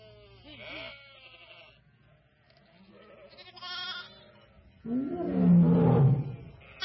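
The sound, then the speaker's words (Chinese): A few wavering bleats from a flock of sheep, then a sudden, loud lion roar as the lion snatches a lamb, rumbling deep and heavy for about two seconds before fading. “哎呀，不好了，狮子，他抓走了我的一只小羊啊！”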